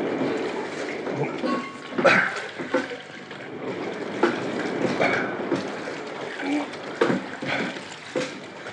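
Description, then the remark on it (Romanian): A rough, stormy sea roars steadily, with heavy waves crashing and surging louder every second or two, loud throughout. “Mare furioasă rău. Nu vezi cum se ridică valurile și le izbesc?”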